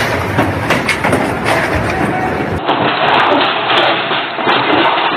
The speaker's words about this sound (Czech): Mnogima ovaj zvuk i danas, 4 godine kasnije, budi traumu. Potres snage 5,5 po Richteru u točno 6 sati i 24 minute probudio je Zagrepčane.